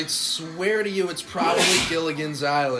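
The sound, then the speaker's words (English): One sharp, forceful, loud sneeze bursts out midway through, with a man talking just before and after it. “Bless you.”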